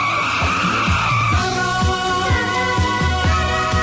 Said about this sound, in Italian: Un solo uomo è in grado di porre fine a questi soprusi e arriva in sella ad una rombante motocicletta.